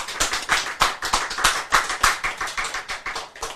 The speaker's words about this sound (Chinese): 你看看，赞不赞？ 赞！ 拍手！